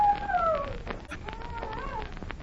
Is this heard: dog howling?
yes